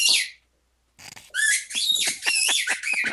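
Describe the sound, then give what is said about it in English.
A dog's squeaky toy squeals loudly: one drawn-out squeak, a short silence, then a rapid run of sharp, high-pitched squeaks as the dog chews it repeatedly. “No, that it's the dog with a squeaky toy.”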